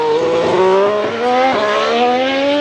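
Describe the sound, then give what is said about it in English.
A Formula One hybrid race car, combining electric motors, turbochargers and a V6 engine, screams loudly, its high, buzzing whine climbing in pitch through quick gear changes, with no voices over it. “Formula One now is actually a hybrid, and so they have a combination of electric motors, turbochargers, and a V6 engine.”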